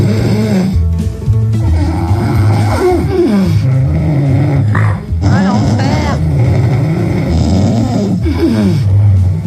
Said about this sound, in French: Et si pour vous, c'est pas grand-chose ce que vous venez d'entendre, écoutez bien ce que ça représente au niveau de l'intensité, les ronflements